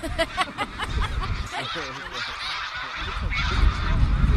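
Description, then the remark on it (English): A large flock of thousands of geese flying in V formation honks overhead as they leave, a dense chorus of overlapping calls that stays steady and fairly loud throughout, with a few brief voices mixed in underneath. “The longer arm has more geese in it.”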